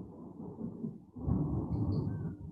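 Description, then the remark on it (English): Low, rolling thunder rumbles steadily outdoors, swelling louder after a brief dip and sustaining a deep, heavy roar; a couple of faint high tones flicker briefly over the rumble. “some good thunder. Yeah, thunder. Proper going for it out there.”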